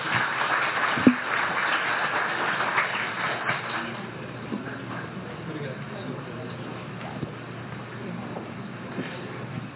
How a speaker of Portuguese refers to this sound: Vamos aplaudir nosso conselheiro Sanderson.